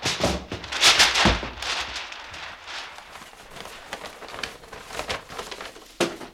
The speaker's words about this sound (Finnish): jolta juuri luiskahtaa paperi käsien välistä.